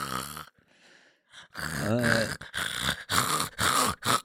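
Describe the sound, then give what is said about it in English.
A person mimics snoring with a few loud, rasping, throaty bursts in quick succession, broken by brief pauses and a short breathy stretch. “An extra year of Dingo for the snoring”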